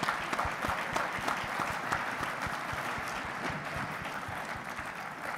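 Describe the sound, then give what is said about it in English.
A conference audience applauds the practice group leadership, many hands clapping in a dense, continuous patter that holds at an even level for several seconds without fading, with no voices rising above it. “Please do give a round of applause to our practice group leadership for all their hard work in making this weekend possible.”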